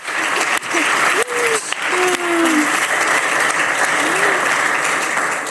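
A crowd breaks into loud, sustained applause, dense clapping for several seconds, with a few faint voices and shouts rising over it.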